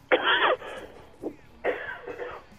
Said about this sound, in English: Anyway, I had a little coughing fit.